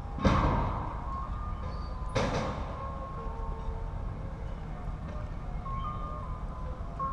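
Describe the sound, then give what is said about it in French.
A gas seller's delivery truck plays a simple repeating jingle over steady street noise, with two sharp bangs early on and no one speaking. “Ce petit événement, mais non, c'est le marchand de gaz.”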